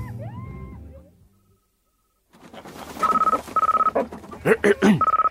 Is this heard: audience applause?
no